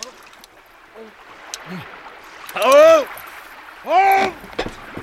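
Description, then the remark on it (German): Two drawn-out human groans, about a second apart, rise and fall in pitch over a steady background of flowing, lapping water, with a few faint knocks before them. The groans come from someone at a flatboat drifting down a river in fog. “Also wenn mich nicht alles täuscht, hat da jemand gestöhnt.”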